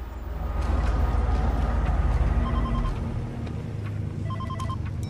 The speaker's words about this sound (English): In one of the vehicles sits Michelle, guarded by Frederick, whose cell phone begins to ring.